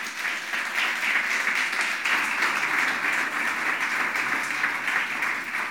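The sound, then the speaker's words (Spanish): An audience applauding together for the Lord, a steady wash of many hands clapping at an even, moderate level for several seconds with no voices rising above it. “Ese aplausito yo creo que fue como para quién sabe quién.”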